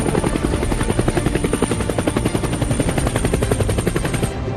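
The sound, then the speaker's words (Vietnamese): A helicopter roars, its rotor blades chopping in a fast, steady rhythm that stays loud throughout, as it comes in under orders to pick up soldiers, with no voices present. “Giữa lúc anh đang có mặt trên trực thăng để về căn cứ thì vô tình chiếc máy bay nhận được lệnh vào bốc tụi tôi.”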